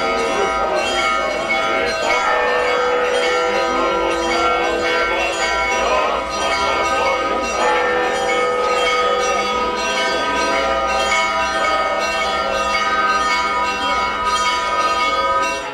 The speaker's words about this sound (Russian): Под торжественный звон колоколов вокруг храма прошел крестный ход.